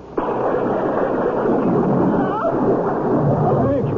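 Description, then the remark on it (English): Lightning strikes with a sudden loud crack of thunder that rolls straight into a heavy, sustained roar of storm noise that stays loud for several seconds. “Something struck me like an enormous ball of lightning.”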